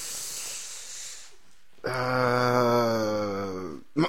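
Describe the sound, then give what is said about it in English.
A single loud yawn: a breathy inhale opens into a long, drawn-out voiced groan that slowly sinks in pitch before ending with a small catch of breath. “Can you not yawn when absolutely. We're doing our show?”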